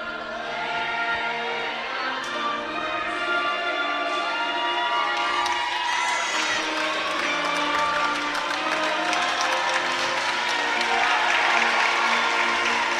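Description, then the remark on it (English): An overflow crowd, including the student section, packs the Bryant Gymnasium for a high school basketball game and roars steadily with applause and cheering, a dense, echoing wall of noise that stays loud and continuous throughout, with scattered shouts rising above it. “An overflow crowd here at the Bryant Gymnasium.”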